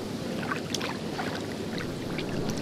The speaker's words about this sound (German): Am liebsten will man gerade reinhüpfen in so einen Whirlpool und sich von den vielen Blöterli im Wasser massieren.